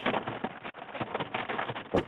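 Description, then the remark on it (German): Rain drumming steadily on a car roof, heard from inside the vehicle, a dense muffled patter with irregular heavier thumps, continuous, with no voices. “man hört auch schon, es regnet, deswegen sitzt ihr auch gerade im Auto”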